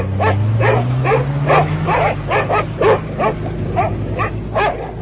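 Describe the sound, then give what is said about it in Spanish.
Dogs bark in a rapid, steady volley, roughly ten loud barks in five seconds, over a low, rumbling engine-like drone; German commando dogs with off-road vehicles hunting escaped prisoners around the burning Treblinka camp. “El judío checo Richard Glazar huyó de Treblinka con su amigo Karel Unger, mientras los comandos con perros y todoterrenos rastreaban los alrededores del campo de Treblinka en llamas.”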